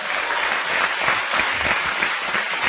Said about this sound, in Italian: Bel applauso per Otar, che se lo merita.